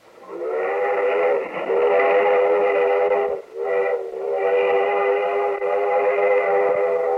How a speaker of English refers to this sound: That's the old steam train coming in from a trip through the Black Hills, one of the great natural wonders of America.